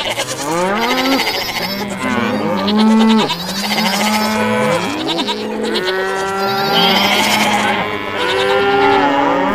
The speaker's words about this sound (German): Und am Abend, die Kühe und Ziegen sind auch sehr laut, da in der Schweiz sind nicht so laut.